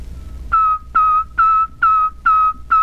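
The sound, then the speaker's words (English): A steady, clear whistle of the letter T, whistled exactly as it is pronounced, repeats six times in an even rhythm, each short loud tone starting with a sharp attack, with no voices. “Here is the letter T.”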